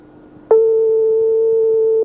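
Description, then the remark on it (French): A single steady telephone ringback tone, the third ring of a call placed during a live RTL radio broadcast, sounds on the line: a loud, pure hum lasting about a second and a half before cutting off, with faint line noise around it and no voices. “Troisième sonnerie.”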